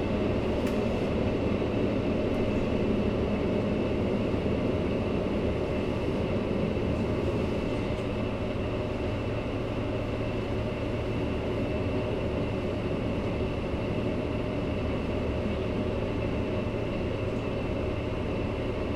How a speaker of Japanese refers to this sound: この列車は三輪島行きワンマン列車です。ドアが閉まります。